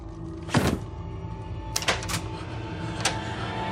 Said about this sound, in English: The door slides open to reveal Saturday inside the wall.